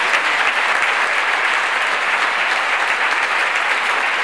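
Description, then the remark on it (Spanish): A theatre audience gives a long farewell ovation to an actress at her last stage performance, La habitación de María, in Logroño in September 2021: a loud, dense wash of clapping that holds steady and unbroken throughout, with no voices standing out. “El público la despidió así, con esa larguísima ovación.”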